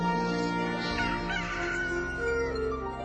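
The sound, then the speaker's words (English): A chicken clucks and crows in a loud, drawn-out call, with harmonic squawks rising and falling over about three seconds and no talking. “She was a chicken. A not-so-chicken chicken.”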